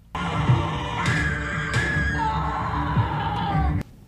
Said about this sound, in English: did anyone else hear in those quick cuts kind of the same cadence as those awful Pepsi commercials where people were screaming what's up to each other through the phone?